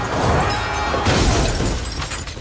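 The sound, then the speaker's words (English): A heavy impact crunches into a car windshield as Bullseye, hurled by Daredevil through a cathedral window, smashes head first onto Yurik's car below, followed by a loud burst of shattering glass that rings and scatters for a couple of seconds. “Bullseye smashes head first onto his windshield.”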